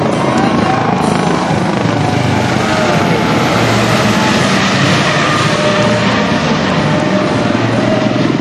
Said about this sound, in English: Here it comes. This is the plane that's going to do the water rescue demo at 3 o'clock at Juanita Beach. Welcome to Coast Guard again.